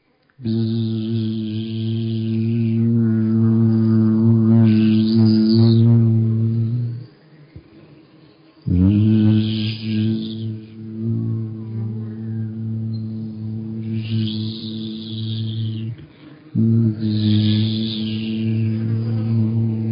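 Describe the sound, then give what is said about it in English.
A voice imitates a bee's buzz with a steady, low humming drone, held in three long breaths separated by short pauses, fairly loud with no talking. “There's some people, I know this one woman who's a drummer who actually feels that when you tone the sound of the bees, when you buzz, it's really good for you.”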